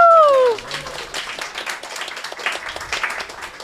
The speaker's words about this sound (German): Ein Applaus zu unserem Maskottchen.